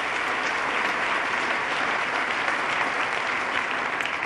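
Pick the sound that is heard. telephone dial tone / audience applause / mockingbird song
audience applause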